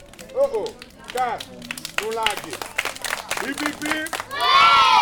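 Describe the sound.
Children's high voices chatter and call out in Port-au-Prince, Haiti, then a loud burst of clapping from the group of kids, sitting in front of a school's crumbling facade, breaks out near the end as a man closes his book, and carries on.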